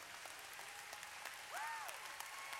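An audience at a conference claps the other way, using their non-dominant hand, in a steady, dense patter with no clear leader. Partway through, a brief rising-then-falling whistle-like tone sounds over the clapping.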